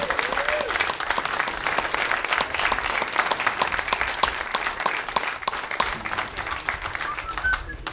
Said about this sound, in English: Come on up. Yes. Round of applause.